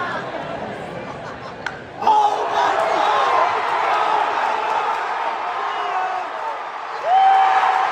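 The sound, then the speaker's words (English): A large ballpark crowd in a fan cam video roars continuously as a hit ricochets into Triple's Alley. The cheering surges suddenly after a couple of seconds and swells again near the end, with scattered yells, including one fan yelling "See ya," and a sustained high whistle rising above the noise. “Should I play the fan cam one more time?”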